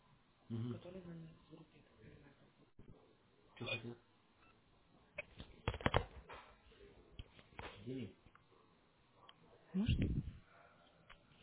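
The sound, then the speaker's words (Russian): A telephone rings with short electronic tone bursts at intervals, an incoming call from people associated with Next Group, heard through a muffled, narrow-sounding line while people talk. “Звонят люди, которые на Next Group.”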